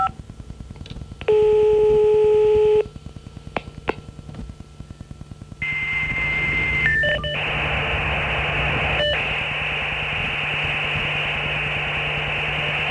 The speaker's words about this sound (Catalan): posar-nos el mòdem de 9600 que vam estrenar fa 6 anys, començarem.